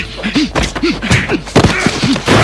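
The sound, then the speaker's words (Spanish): Sharp thwacks and thuds land in quick irregular succession, mixed with short strained grunts and exertion sounds, a fast hand-to-hand fight scene from an action film with several punches trading back and forth. “Peleas cuerpo a cuerpo, persecuciones motorizadas”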